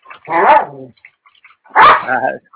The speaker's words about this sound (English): Someone's dog should be muted. Thank you, whoever that is. Nothing against the dog.